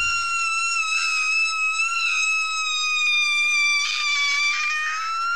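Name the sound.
scream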